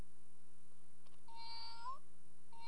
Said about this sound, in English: Is that a kitty? Can you press the kitty? Kitty? Kitty.